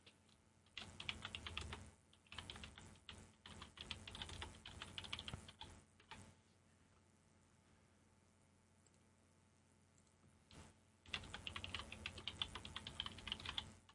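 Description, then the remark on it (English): Rapid clicking of a computer keyboard being typed on, in bursts with a quieter lull in the middle before a final flurry of keystrokes. No one speaks. “Yeah, that's me typing.”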